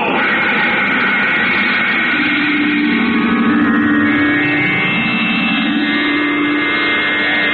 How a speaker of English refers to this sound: Controls are engaged. The ship begins to throb with the unleashed power of its rocket motors. And finally... blast off minus 5 seconds. 4, 3, 2, 1, 0!